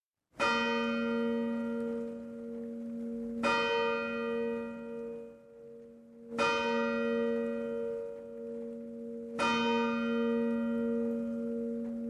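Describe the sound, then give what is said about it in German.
A church bell strikes four times at an even, unhurried pace, each loud resonant stroke ringing on with a long humming decay that overlaps the next. No voices. “mit welchem Glockenschlag bringst du uns heute dein Wort?”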